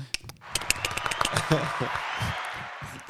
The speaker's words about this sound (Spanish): Muy bien, ese fue …. Démosle un aplauso.